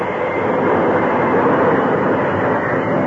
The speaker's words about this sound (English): As with the help of the engineer, he applied the brakes and found the train coming to a stop.